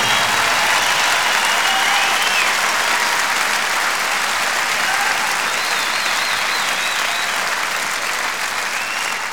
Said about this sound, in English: And I want you to give them a big round of applause.